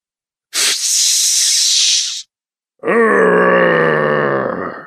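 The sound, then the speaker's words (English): A sharp, steady hiss lasts under two seconds, then after a short pause a man lets out a long, low grumbling growl, loud and rough with a strained, groaning tone, as he injects himself with a flushing agent from a hypodermic. “lets out a grumbling growl as he injects himself with his flushing agent.”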